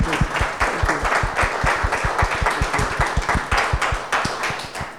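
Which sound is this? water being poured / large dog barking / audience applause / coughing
audience applause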